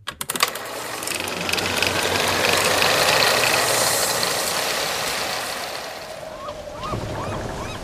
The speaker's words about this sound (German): Und dann ist es plötzlich still. Man hört wieder das Knarren des Schiffes und die entfernten Schreie der Möwen.